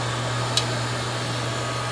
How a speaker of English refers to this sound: You put it in, turn on the lathe. There's going to be some noise. Crank in the cutting head. It cuts the pin. Bring it back out.